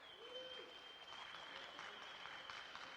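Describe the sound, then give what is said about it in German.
Sustained applause from an audience, a dense crackle of many hands clapping steadily, with a faint high tone running underneath and no clear talk. “Können wir mal einen großen Applaus für die drei Podcaster haben? Ganz großen Applaus, bitte.”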